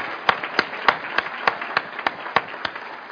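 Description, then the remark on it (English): Audience applause for students from Marco Island Academy and Gulf Coast High School, with sharp, evenly spaced claps standing out about three times per second over a steady bed of crowd clapping, moderately loud, with no voices. “To the students here from Marco Island Academy and Gulf Coast High School, you guys and girls are extraordinarily impressive, and I think we should all give another round of applause.”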